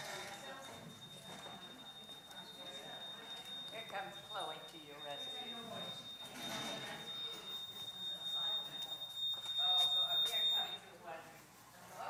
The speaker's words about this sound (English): Let me just see. This may be this alarm that goes off back here.